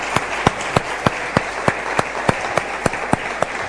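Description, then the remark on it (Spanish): Applause for the Radisson Victoria Plaza during a tea service opening a radio programme's celebration, in a steady, evenly spaced rhythm: about a dozen distinct claps ringing out over a constant background hiss, sounding like only a few hands rather than a full crowd. “Así que un aplauso para Radisson, por favor.”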